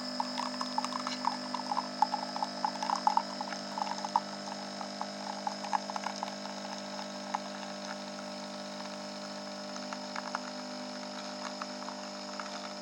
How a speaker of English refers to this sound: And it's heating up the water as well. It smells very nice. And in a minute, you should hear the water sort of making a noise. There we go. And you can hear it pouring out.